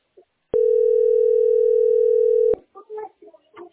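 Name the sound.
telephone dial tone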